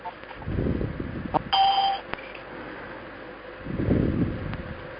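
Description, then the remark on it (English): A brief electronic chime, one short tone lasting about half a second, sounds once over a steady background of low rumbling noise, like a conference line signalling someone leaving. “Those bells. Is that people leaving?”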